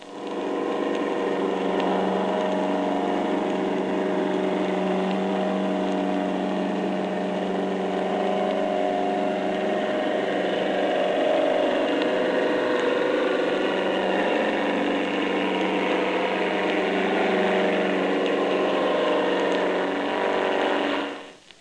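A German air-driven torpedo roars steadily for about twenty seconds, a dense, loud mechanical drone threaded with a fast, even propeller beat and humming tones, with no voices.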